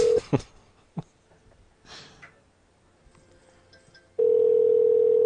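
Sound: telephone ringing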